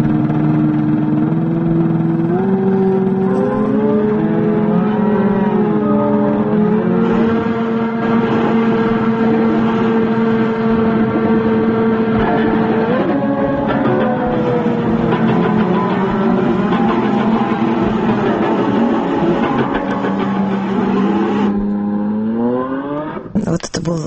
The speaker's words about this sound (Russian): Необычный звук, даже шум, который издавали специальные устройства, созданные композитором и художником Луиджи Руссело, который первым еще в 1913 году обратил внимание на то, что шум похож на музыку, и начал как бы распространять эти идеи.